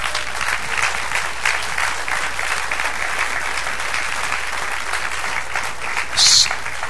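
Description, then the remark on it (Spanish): An audience claps steadily, a dense wash of many hands applauding at an even level throughout, with a brief sharper burst near the end and no voices speaking. “Dale aplauso, ¿sí?”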